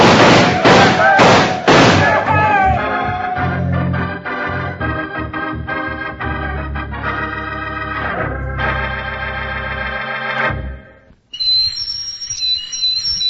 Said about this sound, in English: That whistle is to remind you that you can own a real operating model of the USS Nautilus, world's first atomic submarine.